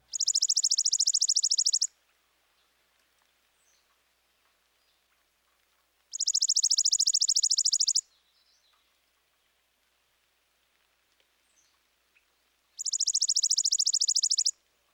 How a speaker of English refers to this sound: Now here's the chipping sparrow. His song is a rapid, dry trill.